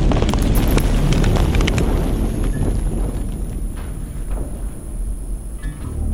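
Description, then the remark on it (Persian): Close machine-gun fire: a dense, rapid burst of sharp, loud cracks in the first couple of seconds, then sparser shots continuing over a heavy rumbling roar. No one speaks. “اینطور به نظر میرسه که یه مسلسل تو فاصله خیلی کمی داره شلیک میکنه.”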